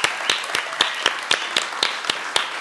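Audience applause: a steady, dense wash of clapping with individual sharp claps punching through in a regular beat, roughly four per second, at a moderate level with no talking over it.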